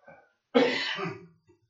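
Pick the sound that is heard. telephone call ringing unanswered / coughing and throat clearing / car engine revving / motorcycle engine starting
coughing and throat clearing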